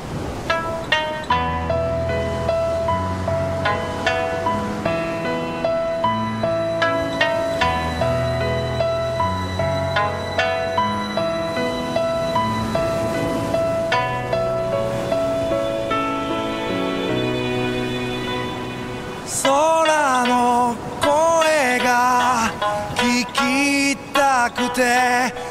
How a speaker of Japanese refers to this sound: それでは本日のリクエスト曲をお届けしましょう。